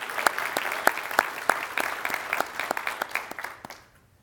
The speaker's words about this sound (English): You can clap to that. That's good.